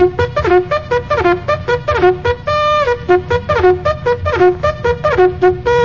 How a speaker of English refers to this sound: Some people wake up to the sound of a bugle.